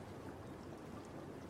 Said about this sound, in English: And this one contains the highest mineral content found in any hot spring in the world. In only 5 minutes, 8,400 gallons of hot spring water rises to the surface. This water also keeps a pretty hot temperature, between 120 and 134.